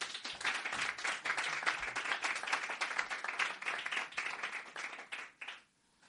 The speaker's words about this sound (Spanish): Antes de comenzar, por favor, fuerte aplauso